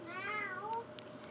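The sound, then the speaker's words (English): A young child's voice imitates a cat with one drawn-out, wavering meow, clear, followed by a few faint clicks and quiet room noise. “What does a kitty cat say?”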